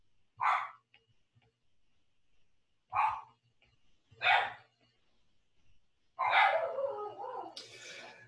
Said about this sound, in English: Oh, dogs are so barky today.